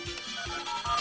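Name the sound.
whatsApp message notification tone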